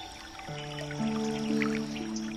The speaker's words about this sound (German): Du gehst dem Geräusch nach? Und tatsächlich eine Quelle. Du entdeckst kristallklares Wasser, das fröhlich aus einem Felsen herausplätschert.